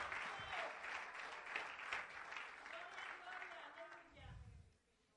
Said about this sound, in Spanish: Dele, dele ese aplauso con fuerza, dele, dele ese aplauso al Rey de Reyes y Señor de Señores, aleluya.